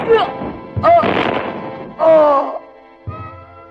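Gunshots ring out in a Hindi film scene after an order to fire: about four sharp, loud bangs spaced irregularly, with short bursts of noisy echo and wailing cries rising between them.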